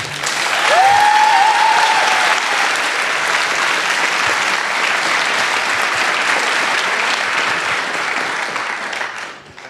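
An audience at the Jugendhack youth hackathon breaks into loud, sustained applause for a mentor, dense clapping that holds steady for about nine seconds, with a brief rising whistle early on, before fading slightly at the end.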